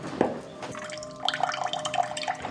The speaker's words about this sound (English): This is my cold water pressure in the kitchen.